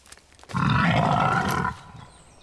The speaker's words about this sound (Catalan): Entre els arbres hi passeja un senglar.